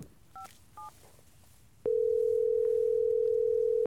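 Two quick touch-tone keypad beeps sound as a phone call to an expert is dialed, followed by a loud, steady telephone tone held at one pitch for about two seconds, with no voices.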